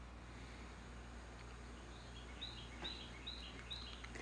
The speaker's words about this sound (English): The bird sang. Do you hear that bird?